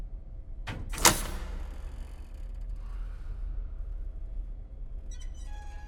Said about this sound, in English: In the autopsy room, Dave draws closer to Hannah's compartment and presses his ear to the door. His brow furrowed, the curly-haired guard straightens and opens the door.